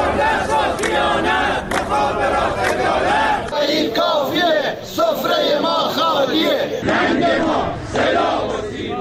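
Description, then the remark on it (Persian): A large crowd of retired telecommunications company workers shouts and chants together at a Monday protest rally in front of telecom offices in Iranian cities including Isfahan, Tehran and Tabriz, many raised voices overlapping in a loud, continuous roar that holds steady for the whole stretch. “گروهی از بازنشستگان شرکت مخابرات در ادامه تجمع‌های هفتگی خود دوشنبه در برابر اداره‌های مخابرات در شهرهای مختلف از جمله اصفهان، تهران، تبریز، رشت، سنندج، اهواز، همدان و شیراز تجمع اعتراضی برگزار کردند.”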